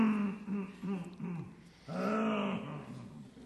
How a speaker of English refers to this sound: Let me clear my throat. Wait a minute.